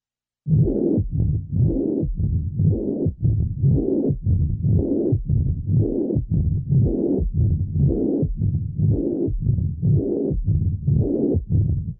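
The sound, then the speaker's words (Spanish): Heart sounds with systolic and diastolic murmurs: a steady, regular rhythm of about one beat per second, each beat trailed by a low, rough whooshing that nearly fills the gaps. No voices. It is a reconstructed auscultation, with the systolic murmur first and then the diastolic murmurs. “Reconstruiré para ustedes este complejo auscultatorio. Primero el soplo sistólico y después los soplos diastólicos.”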